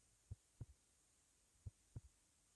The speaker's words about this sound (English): Just feel safe in my arms. And just keep listening to my heartbeat.